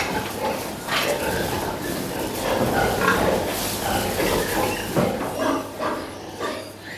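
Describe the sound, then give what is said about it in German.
Several pigs grunt and snort in their stables in a steady, overlapping chorus, fairly loud, with occasional sharper squeals breaking through the continuous rumble of the herd. “Und das sieht man ihm, seinen Ställen und seinen Schweinen auch an.”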